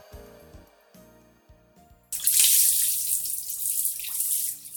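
A few seconds of soft, low musical tones, then a shower abruptly starts and keeps running with a loud, steady hiss of spraying water to the end.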